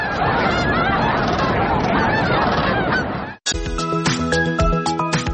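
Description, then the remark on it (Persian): A large flock of cranes calling, a dense, loud chorus of overlapping honking bugles for about three seconds, then an abrupt cut to a brighter, tonal, music-like passage. “دلاروس میگوید محبت و شوق مردم محلی را در گروه دوستان باسک دلپاچی جمع آورده است و هر سال آنها جشنواره تورنه ها را برای دوستداران پرنده ها و عکاسان تشکیل میکنند.”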